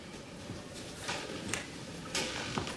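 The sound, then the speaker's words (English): A door opens quietly, with a few soft clicks and a brief rattle of the latch against a steady background hiss, as a woman walks in. No one speaks. “Hearing the door, he sits up.”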